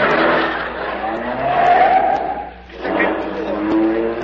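A Town and Country car's engine roars as it speeds up a parking garage ramp toward the top floor, tires squealing in long, high-pitched wails that rise and fall over about four seconds, with a brief dip before the screeching starts again.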